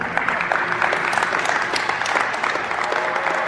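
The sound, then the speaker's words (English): Workers at a warehouse in Olive Branch, Mississippi, applauding steadily as the first pallets of Moderna's newly authorized coronavirus vaccine head for shipping trucks, a dense crackle of many hands clapping at once that holds at an even loudness throughout, with no voices standing out. “Workers at a warehouse in Olive Branch, Mississippi, applauding as the first pallets of Moderna's newly authorized coronavirus vaccine head for shipping trucks.”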